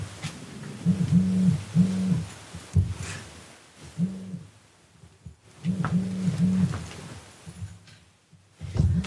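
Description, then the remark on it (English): A mobile phone vibrates from an incoming text with a low, droning buzz in short repeated bursts, grouped in twos and threes with pauses between, sounding muffled as if against a surface. “Just text me. I heard a vibrate.”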